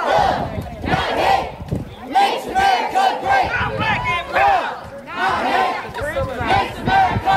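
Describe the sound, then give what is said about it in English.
A large crowd of protesters chants loudly in the street at night during a peaceful march, many voices shouting a repeated phrase in rhythmic bursts with brief pauses between each round. “Protesters took to the streets last night, some for more than 3 hours, in what turned out to be a peaceful night on Hurdle.”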